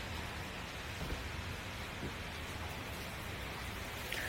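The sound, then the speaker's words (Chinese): Heavy rain pours down outside at midday, a continuous, even hiss of drops with no pauses or voices, heard at moderate volume throughout. “亲爱的，其实这样的下雨天就想和你窝在家里看电影。”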